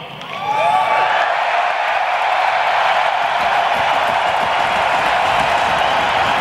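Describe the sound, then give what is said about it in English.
A big crowd erupts into a loud, sustained roar of cheering, swelling up in the first moment and then holding steady, with scattered whoops and whistles near the start. “My beautiful noise is a little different. Mine is the roar of the crowd.”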